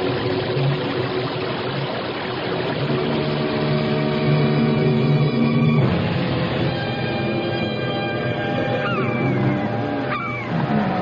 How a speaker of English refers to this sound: Donnacona, what's that noise? It sounds like a giant waterfall. There are no falls around here. It's a whirlpool. We're being sucked under.